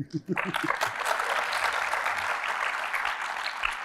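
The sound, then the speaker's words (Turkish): A brief burst of voice gives way to a crowd applauding, a dense, steady clatter of many hands clapping that holds at an even, fairly loud level until the end. “Bu arada pardon, alkış gelmişken demin arkada şunlar dönüyordu.”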